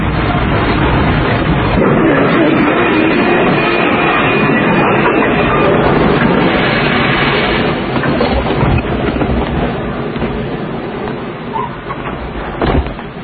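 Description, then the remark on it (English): Steady, dense rumble of a passenger train in motion, loud, with rattling and clattering throughout and a sharp knock near the end as the noise eases slightly. “Stop the train!”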